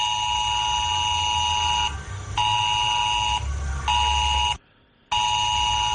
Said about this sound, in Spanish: Es la alarma que el Gobierno de Cantabria, junto al Ministerio del Interior, va a aprobar hoy el sistema S-Alert de aviso de situaciones de riesgo a los móviles de la población en el entorno de Santander y Camargo.